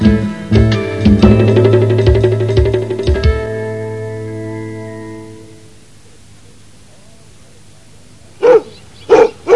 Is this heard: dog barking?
yes